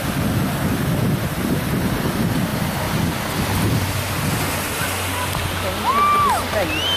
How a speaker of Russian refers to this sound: Вот волна какая. Никто не вскочил.